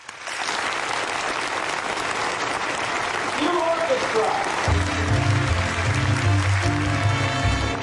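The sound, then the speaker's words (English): A studio audience breaks into steady, dense applause on cue as shooting of a television pilot begins on kinescope, holding loud for the whole stretch, with music starting up underneath the clapping about halfway through. “Okay, cue applause.”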